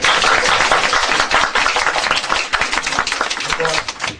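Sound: audience clapping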